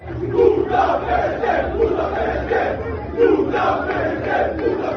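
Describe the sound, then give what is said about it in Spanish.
A crowd of about 150 to 200 football fans chants loudly in the afternoon, heckling the Paris Saint-Germain team bus as it arrives at the team's hotel, the Hotel Vela in Barcelona. Their voices rise and fall in steady, repeated phrases that carry on without a break. “esta tarde se escuchaban estos cánticos en la llegada del equipo al hotel.”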